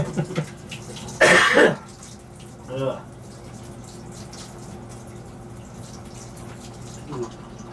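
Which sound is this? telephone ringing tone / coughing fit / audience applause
coughing fit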